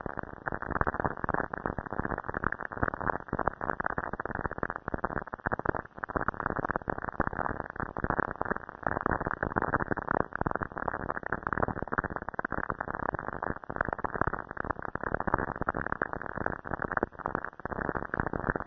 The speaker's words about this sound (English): But I think you'll hear the similarity between what you hear on your AM radio in the middle of a thunderstorm and what Cassini detects from Saturn's lightning. Okay, this is an audio representation of what lightning sounds like on Saturn.